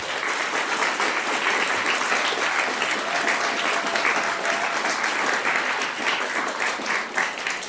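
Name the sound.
audience applause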